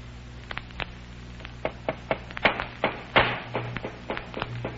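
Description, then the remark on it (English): Hammering a wooden crate tight shut during a magic trick: a rapid, uneven string of sharp knocks, some louder than others, over a steady low hum, with no one talking. “Well, they're hammering that crate tight shut.”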